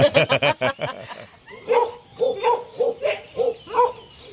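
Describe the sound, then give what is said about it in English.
Working dogs used for rabbit pest control alongside ferrets in New Zealand bark in a rapid, excited burst, then keep up a steady run of sharp, evenly spaced barks, loud, with no talking over them. “We work with dogs and ferrets for the rabbit work”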